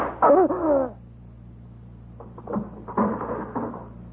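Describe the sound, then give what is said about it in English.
A stiff drawer is yanked open: a loud squeaky scrape, then after a short pause a series of rough, rattling jerks and scrapes as it grinds along. “This drawer was sticking.”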